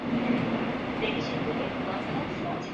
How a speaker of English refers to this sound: For millions of South Koreans, the morning subway ride to the office begins a very long day at work.